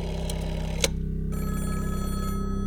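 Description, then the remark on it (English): An old-fashioned telephone bell rings steadily with a rapid metallic trill, loud, in Kenneth Oakley's office at London's Natural History Museum, broken by a single sharp click partway through. No one speaks. “In his office under the great Gothic vaults of London's Natural History Museum, Kenneth Oakley picked up the telephone.”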